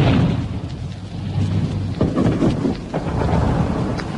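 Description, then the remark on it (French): Heavy booming cannon fire on Place Saint-Michel and along the boulevard rolls over a constant low rumble, with sharp blasts breaking through around the middle and end. There is no speech, only dense, crackling noise throughout. “Et tandis que dans le boulevard du Palais, des SFI construisent un fortin en sac de sable, sur la place Saint-Michel et le long du boulevard, les canons sonnent violemment.”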